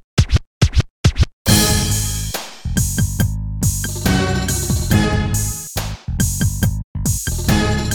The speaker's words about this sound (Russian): Движениями руки он извлек прямо из воздуха 4 громких жующих скретча, и гангста-рэп загремел отовсюду вновь.